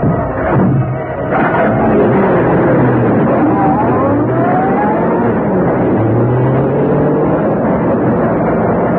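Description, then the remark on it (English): A convertible car engine starts up with a few clunks, then roars steadily, its pitch climbing through gear changes as it pulls away, staying loud throughout. “Then he stepped into his convertible.”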